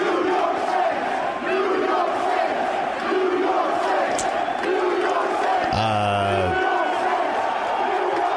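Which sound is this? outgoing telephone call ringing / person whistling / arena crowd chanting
arena crowd chanting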